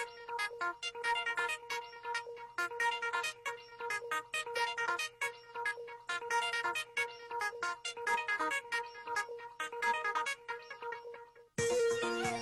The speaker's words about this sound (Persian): خب موسیقی پیامک ها اومد